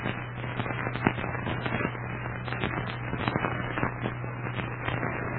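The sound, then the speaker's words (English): A steady driftwood fire crackles and pops without pause in a snowy clearing in front of an igloo, with dense sharp snaps scattered irregularly over a low constant hum, at moderate volume and with no voices. “A big crackling fire of driftwood lighted up the snowy clearing in front of the igloo.”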